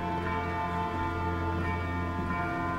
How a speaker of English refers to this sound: It's out there in the landscape, in the city that surrounds him. There's a lot of bells ringing in the distance.